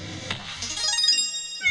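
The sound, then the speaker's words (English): A short, bright electronic cat meow rings out with a video game's logo, alongside a chiming, retro-style jingle like SNES-era music, clear with no talking, lasting under two seconds. “There's a little cat for the logo.”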